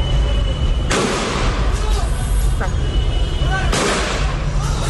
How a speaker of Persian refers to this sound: اینجا در شهر عوض، یکی دیگر از شهرهای استان فارس، معترضان علیه رهبر جمهوری اسلامی شعار سر دادند.